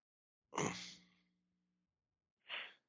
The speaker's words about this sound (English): He kind of yawns.